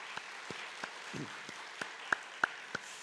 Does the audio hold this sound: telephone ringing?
no